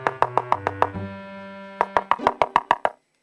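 Knocking on the wooden door of a hut deep in a forest, in two quick, evenly spaced bursts, six raps and then eight, with a soft sustained musical tone humming underneath in the pause between them.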